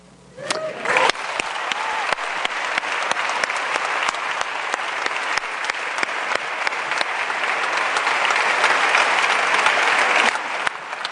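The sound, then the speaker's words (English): Sustained applause from an audience at a Commonwealth Club of California Inforum meeting, a dense steady patter of many hands clapping that swells quickly after a brief start and continues evenly for about ten seconds before tapering off. “And with that, and a huge, huge applause and congratulations for such important work”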